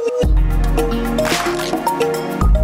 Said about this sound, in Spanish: Temporada de libros. Lecturas con música de olas.